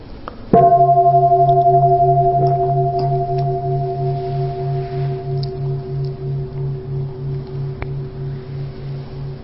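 A single strike on a large temple bell, its deep, low hum ringing out alone and slowly fading over several seconds with a steady, pulsing waver.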